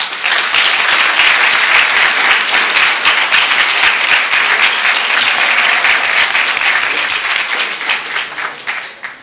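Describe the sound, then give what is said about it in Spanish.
Sustained audience applause for the foreign guests at the close of a day-long event, a dense crackle of many hands clapping at once, holding steady and loud for several seconds before thinning out and fading at the end. “Bueno, creo que entonces que hemos terminado la jornada y quisiera agradecer la presencia de ustedes y por supuesto muy en especial la de nuestros invitados extranjeros, a quienes les pedimos un aplauso.”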